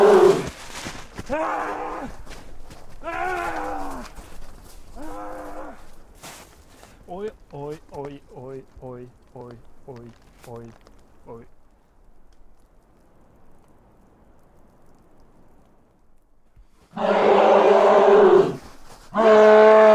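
A moose bellows in several drawn-out, moaning calls, then lets out a quick run of short, rhythmic grunts. A quiet stretch follows before a loud burst of rustling noise.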